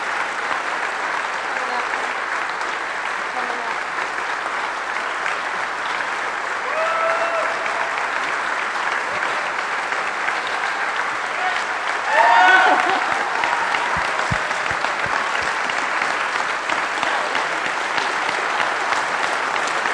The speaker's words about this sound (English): So we'd like our team to come up here, please, for everyone to give them a round of applause.